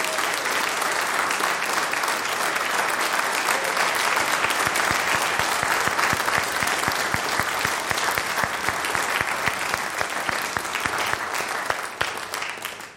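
Sustained audience applause at Hillcrest honoring a woman who just celebrated her 90th birthday, with dense, rapid clapping from many hands, steady and loud for about twelve seconds before tapering off at the end.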